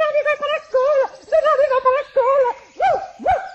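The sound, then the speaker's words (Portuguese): A rapid string of high, yappy barks like a small dog, about eight close together in an excited rhythm, loud, apparently a voice imitating the barking. “Ladrava o cãozinho abanando o rabo.”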